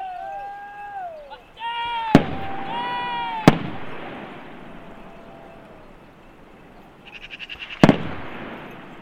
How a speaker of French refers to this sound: Les coups de feu tirés qui résonnent au loin semblent indiquer qu'il n'a pas réussi à s'échapper.